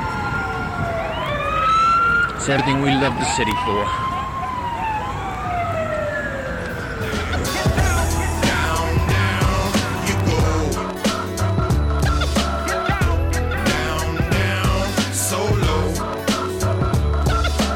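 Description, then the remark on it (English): Loud, busy New York City street traffic: a wailing siren sweeps up and down over rumbling vehicles, then dense engine noise, horns and clatter fill the scene, with a brief voice speaking. “This is the New York that I associate with the movies and everything. Noisy, crowded. Billboards everywhere, flashing lights, traffic chaos, fantastic.”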